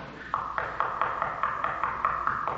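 Rapid, steady pounding on a door: around ten loud knocks in an even rhythm, insistent, with no voices.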